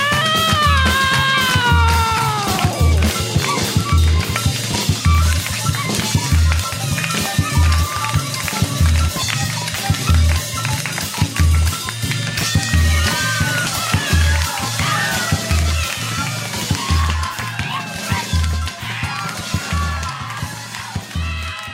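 A fife band plays lively forró, shrill piping melodies gliding and trilling over a steady, driving bass-drum beat, loud and continuous throughout.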